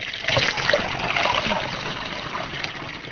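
Water sloshes and trickles steadily in a broad, splashy wash with occasional brighter splatters, as if being scooped or poured from a container, fairly loud and continuous with no voices.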